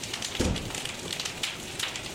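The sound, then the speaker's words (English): A steady crackling hiss scattered with sharp pops and drip-like ticks, the sound shifting from patter toward rapid, irregular popping at moderate volume, with no voices. “and I started thinking that they didn't really sound like raindrops anymore. Now they started to sound like something popping.”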